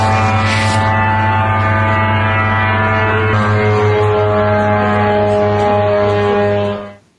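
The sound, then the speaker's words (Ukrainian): A low-flying Iranian attack drone passes steadily overhead, its loud, buzzing engine note holding a constant pitch for several seconds before cutting off abruptly. No voices are heard. “Я навіть попрошу наших колег зараз запустити там буквально кілька секунд в звукові, як звучить іранський безпілотник.”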